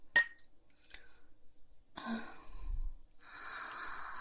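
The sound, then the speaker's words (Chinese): A single bright, ringing clink of glasses in a toast with alcoholic drinks, then a faint tap, followed by breathy exhales and a soft sustained hiss with no talking. “来，干杯，臭弟弟。”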